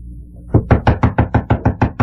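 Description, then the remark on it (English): A rapid series of about nine firm knocks on a wooden front door, evenly spaced, with no voices present. “it's your front door. We'll get it, will ya?”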